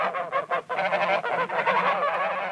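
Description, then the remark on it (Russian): A flock of geese honking in flight, their nasal calls overlapping in a dense, continuous clamor that stays fairly loud throughout, with no voices. “А гуси за нею в погоню летят.”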